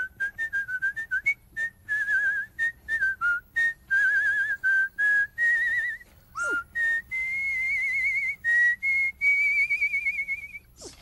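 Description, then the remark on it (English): A man whistles a short melody of a couple of bars alone, clear, with a run of quick choppy notes giving way to longer sustained tones and a brief upward slide near the middle. “can you whistle? I can whistle with the best of them. Cool, let's hear it.”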